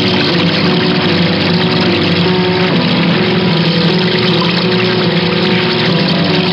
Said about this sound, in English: Somewhere over the Atlantic, the motors conked out, and we had to ditch the plane in the ocean.